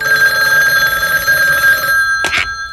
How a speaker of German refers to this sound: am nächsten Abend allein in der Zentrale vor dem Rechner saß, klingelte das Telefon.